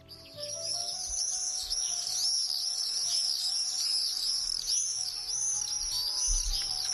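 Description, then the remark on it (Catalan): Common swifts, migratory birds that return around May to nest on city roofs, scream overhead in a continuous shrill chorus, many high calls overlapping and repeating steadily with a faint low rumble beneath, and no one speaking. “Sabies que ja han arribat els falciots?”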